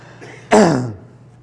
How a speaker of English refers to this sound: Sorry, when I coughed, I lost.